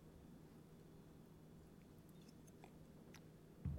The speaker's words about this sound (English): If you want to go to the Max Payne Monday show on Hustle Casino Live on YouTube, 227.48, go there while I take yet another sip of coffee.